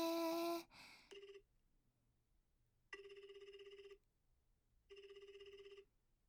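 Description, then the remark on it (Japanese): An outgoing phone call's ringback tone on a call to a listener: a short electronic burst, then three buzzing rings, each about a second long, separated by brief silences, with no one talking. “リスナーさんとお電話するの初めてだから緊張しますけど、それではかけてみましょうね。”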